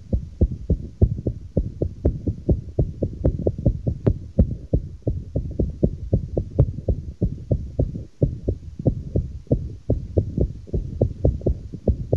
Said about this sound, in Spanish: Parece el galopar de un caballo. Esto es una arritmia. El corazón perdió ritmo. El corazón dejó de latir con su ritmo normal. Y lo que ha adquirido es un ritmo anormal.